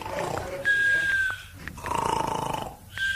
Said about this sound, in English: I thought I heard someone snoring. Seemed to come from this filing cabinet. Sounds like someone's inside. No, I think it sounds like snoring.